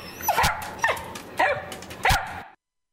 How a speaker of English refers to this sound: What a great dog.